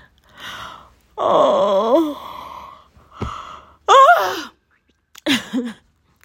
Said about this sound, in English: that yawn was so aggressive.